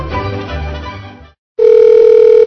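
A payphone receiver's noisy rustling as someone tries to make a phone call gives way to a brief pause, then a loud, steady dial tone hums continuously for almost a second. No one speaks.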